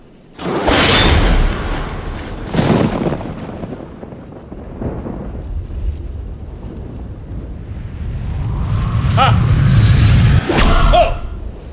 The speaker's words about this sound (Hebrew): אני אירה חץ לכיוון רומי. חץ תשועה ברומי.